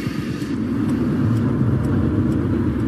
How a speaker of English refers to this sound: Well, Her Majesty has just touched down at Baldonnell Airport. These are the live pictures as the plane comes to a halt.